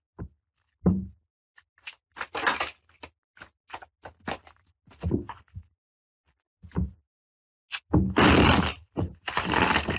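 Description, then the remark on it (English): Tarot cards are shuffled in a string of crisp, papery riffles and taps, irregular bursts that end in two longer, louder riffling flurries, with no voices over them. “That was a beautiful shuffle.”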